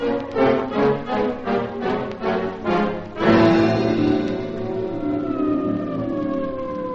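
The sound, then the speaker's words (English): Loud police vehicle sirens blare together as they converge on a building, starting with a rapid pulsing yelp for a few seconds before shifting into a long, steady wail that slowly falls in pitch. No one speaks. “Yes, already the sirens of the police vehicles converge upon this place.”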